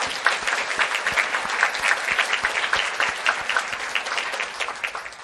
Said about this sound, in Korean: 아무리 돌이켜보아도 형편없는 미물에 지나지 않건만 그래도 우리를 버리시지 않고 우리와 동행해 주시고 오늘이 있기까지 우리를 인도해 주신 삼위일체 하나님께 먼저 찬양과 감사의 박수를 올려드리겠습니다.